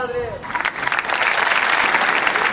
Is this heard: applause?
yes